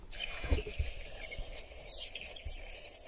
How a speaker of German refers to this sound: Also man hört schon, der Vogel ist genau wie seine Größe eher zurückhaltend, aber hier kommt noch das Lied.